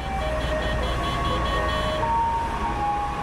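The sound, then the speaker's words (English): A water-spraying truck winds through the streets of Linfen, Shaanxi province, playing a tinny electronic tune of steady sustained notes while spraying water on the road to settle dust and pollutants, over a constant low rumble of engine and street noise, the spray's hiss blending into the background. “To the melody of Happy Birthday, a truck winds its way through the streets of Linfen, spraying water on the road”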